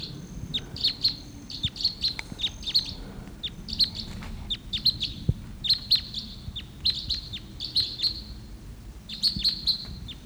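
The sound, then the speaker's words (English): Flight calls of a wild type 2 red crossbill coming in, early morning of August 16th: sharp, high "kip" notes repeated in quick pairs and clusters throughout, moderately loud over a low, steady rumble, with no talking. “early morning of August 16th, and there's a wild type 2 crossbill coming in.”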